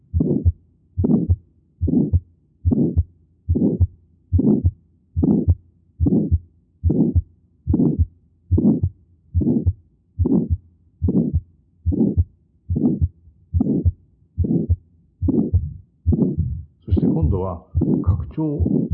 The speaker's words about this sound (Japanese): 中期に逆流性の雑音が聞こえているわけです。そして収縮期の雑音が加わります。